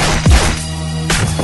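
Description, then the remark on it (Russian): A few hard fighting blows land: a heavy thudding whack, then after a short pause two more sharp smacks in quick succession, with no voices. “Потом прыжок, молния, серия молниеносных ударов.”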